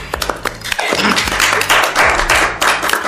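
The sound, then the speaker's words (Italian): A burst of applause for a story fills the space, many hands clapping in a dense, continuous wash, loud, with a few sharper individual claps at the start. “Ragazzi, una storia bellissima. Applauso.”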